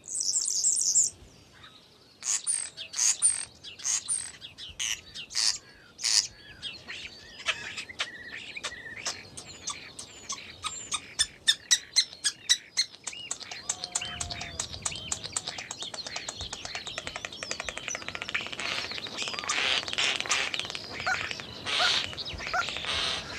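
A starling at a roofless croft building sings to defend its territory, a long, rambling song of shrill whistles, rapid clicks and buzzy rattles, fairly loud, with no one talking.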